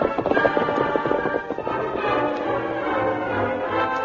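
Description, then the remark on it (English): The horse Silver gallops toward town, following tracks, with a steady, rapid clip-clop of hooves, the rhythmic beats continuing throughout at a fairly loud, even level with no voices. “Come on, Silver! Get up to town.”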